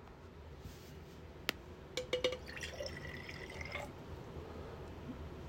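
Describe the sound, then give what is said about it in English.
A quiet splash of water poured from a glass: a few small clinks and drips, then a brief trickling stream with a ringing tone, fading out. No voices. “So imagine this water is my willpower.”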